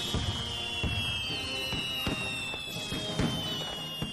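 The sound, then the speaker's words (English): Fireworks bang and crackle in a steady stream of sharp bursts, roughly one or two per second, over a continuous high whistling hiss, with no voices. “If I ever, ever have a firework display, I'm going to employ you as the sound technician for the firework display in my garden.”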